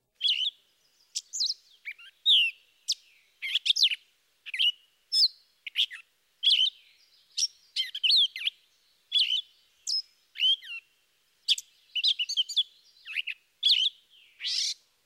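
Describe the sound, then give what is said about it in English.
A gray catbird sings a long, disjointed string of short, high squeaky and scratchy phrases, each one different, tumbling out with brief irregular pauses and no steady repetition. “The last of the mimics is the gray catbird.”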